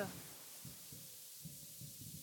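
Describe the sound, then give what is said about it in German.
Soft, low pigeon cooing: a run of muffled, throbbing coos repeating roughly every half second, quiet, with no one talking. “Das ist eine Taube, so keine Eule.”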